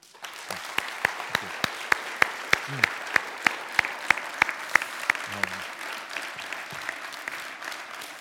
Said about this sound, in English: Can't tell you how good it was to hear you clap because I wasn't sure what your thoughts would be.